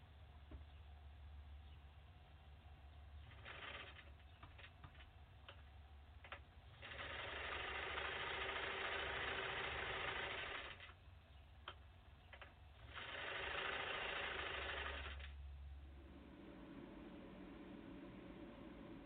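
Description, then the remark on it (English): A sewing machine runs in two steady whirring bursts of a few seconds each, with scattered mechanical clicks and a low hum filling the pauses between them. “Sewing machine installation.”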